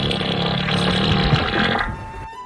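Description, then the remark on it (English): A loud, wet fart sputters and rasps for about two seconds, then cuts off abruptly into near silence. “And a fart montage, and maybe some dad jokes.”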